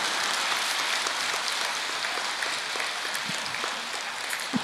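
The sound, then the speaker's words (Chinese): Hand clapping that one person started too early runs through the whole stretch as a dense, even patter of hand claps at a steady moderate level, with no voices and no clear pause or build. “所以人现在就是太急，你看急得来鼓掌都一个人先出来了。”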